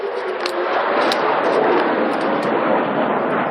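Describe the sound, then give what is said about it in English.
A steady, loud roaring rush of outgoing missile defense interceptors launching outside Sheba Hospital to hunt incoming Iranian missiles, with a few faint sharp cracks or booms breaking through the continuous noise. No one speaks. “as is outgoing missile defense, hunting incoming Iranian missiles.”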